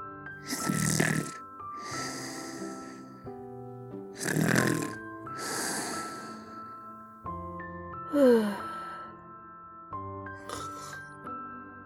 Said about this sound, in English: Firefly and Cricket were snoring. It turned out that they didn't faint because they were hurt. They had just fallen asleep.